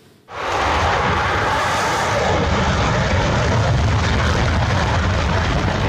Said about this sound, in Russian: Вот так 2 года назад новейший истребитель Су-57 с оглушителем ревом взлетал на авиасалоне «Макс». По данным Минобороны России, самолет 5-го поколения способен уничтожать все виды воздушных, наземных и надводных целей.